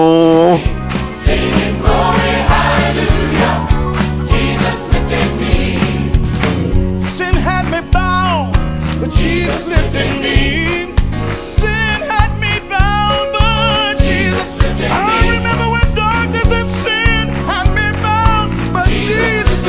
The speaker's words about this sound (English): Mate, I want to play a bit of music, a bit of Christian music. Can I play some Christian music? Oh, no, not Christian music. Yeah. Here we go. Come on. Clap your hands. Dance. Have some fun,